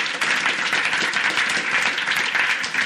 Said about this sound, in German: Gebt ihr doch einen kleinen Applaus.